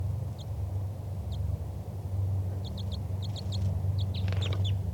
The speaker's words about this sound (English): That was a wild bird giving flight calls. Chitter by the wild bird.